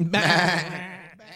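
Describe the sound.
A person imitates a goat with one loud, quavering bleat that wobbles in pitch for about a second before trailing off.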